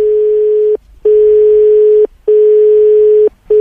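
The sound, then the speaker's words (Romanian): A telephone ringing tone on an unanswered call to a deputy mayor in Timișoara, Romania: a steady, clear electronic hum that repeats in long bursts of about a second with short silent gaps, loud and alone with no voices. “Îmi pare rău, dar persoana apelată nu este disponibilă.”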